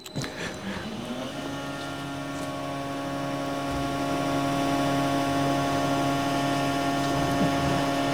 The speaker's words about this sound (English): We first touch down without any vibro hammering, but you hear in the background the hydraulic power pack that's also starting up.